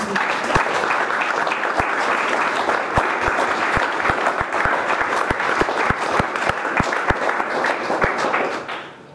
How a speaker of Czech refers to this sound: Prosím o potlesk.